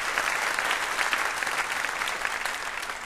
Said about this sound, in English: Fantastic. A round of applause for Piper Kerman.